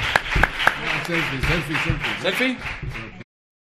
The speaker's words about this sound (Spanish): ¿Le podéis dar un aplauso, por favor? Gracias, gracias, chicos, gracias. Muchas gracias.